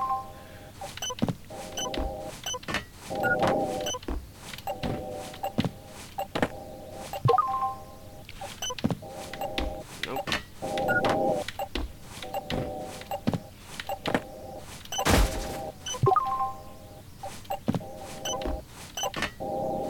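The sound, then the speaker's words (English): Rapid, irregular clicking of computer keys, sharp taps in uneven bursts, mixed with repeating tonal electronic beeps and hums; no one speaks. “If you can hear my keyboard, sorry.”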